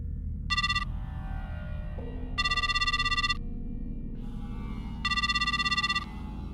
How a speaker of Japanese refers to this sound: 電話。